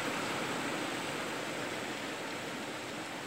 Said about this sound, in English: And in the background, I hear this like... It really reminded me like of a surge or of a really low surge or ocean waves. The sound of an ocean wave if it was constantly crashing.